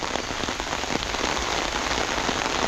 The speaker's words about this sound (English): I love walking in the rain. Let's do some umbrella ASMR.